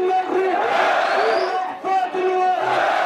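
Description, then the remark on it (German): A large crowd cheers Syrian football player Abdul Basset Asarou loudly and continuously, many voices shouting and chanting together in a dense, roaring wall of sound with raised, sustained calls rising above it. “Die Menge jubelt Abdul Basset Asarou zu.”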